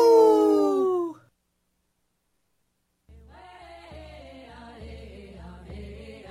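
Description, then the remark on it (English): A single loud wolf howl slides downward in pitch and cuts off after about a second, followed by a short silence and then soft, sustained musical tones. “Minnesota wolves deserve to be protected and admired. Learn more at howlingforwolves.org. Let's live and let howl. Howl!”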